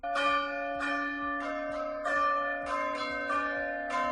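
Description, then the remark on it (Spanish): Church bells of the church of San Andrés in Villava, Navarra, ring out in a steady, overlapping peal, several strikes per second blending into a sustained metallic shimmer, fairly loud with no voices, warning residents that the temperature has reached 35 degrees. “Y es que las campanas de la iglesia de San Andrés de Villava van a tocar para avisar que se han alcanzado los 35 grados de temperatura, que es el umbral de calor marcado por las autoridades sanitarias.”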